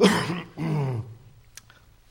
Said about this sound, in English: Let's clear my throat here.